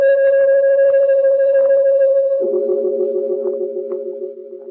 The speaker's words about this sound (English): And there was the sound of a deep-toned bell, clanging thunderously once, and echoing across the empty glade.